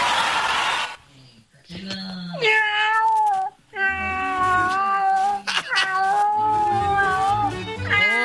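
A raspy, hoarse, skinny and scraggly cat yowls in long drawn-out meows and wavering caterwauls, loud, with a few brief pauses between cries and faint noise at the start.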